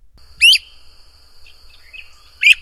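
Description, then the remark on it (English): A flycatcher, Mohawk, gives two sharp, high whistled calls about two seconds apart, signalling that he has found a good place to hunt insects, with a thin, steady high tone and a few faint chirps in between. No one speaks. “Mohawk used special whistles to let everyone know when he found a good hunting place.”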